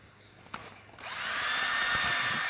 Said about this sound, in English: So I'm going to find a place where the two holes kind of line up more or less. Drill a hole on one side. Drill a hole on the other side.